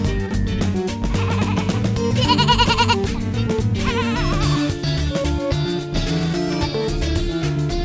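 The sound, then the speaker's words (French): A person imitates a goat, letting out loud, quavering bleats with a shaky vibrato that carry on almost continuously for several seconds. “Est-ce que je sais faire le bruit de la chèvre? Alors, vas-y, on t'écoute.”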